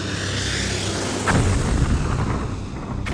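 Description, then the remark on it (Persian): A steady, loud roaring rumble as an enemy warplane overhead breaks the sound barrier, broken by a deep boom partway through and another sharp blast at the very end as two rockets are fired at a crowd on the old bridge in Dezful, with no voices. “جمعیت روی پل قدیم که رسید صدای غرش هواپیمای دشمن دیوار صوتی رو میشکنه و دو تا راکت به سمت جمعیت شلیک میکنه.”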